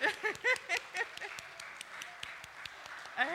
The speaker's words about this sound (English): All right, everybody clap for the Kids Club.